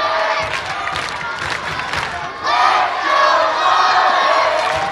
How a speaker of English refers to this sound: The crowd, as you hear, rowdy. Sounds like a normal Saturday night here in Towel City.